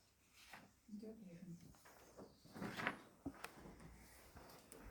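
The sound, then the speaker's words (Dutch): A door is pulled shut with a rustling slide and a short knock as it settles, amid quiet background noise and faint, indistinct voices. “Doe die ook even maar. Je hebt die deur nog wel openstaan, je wonde muggen.”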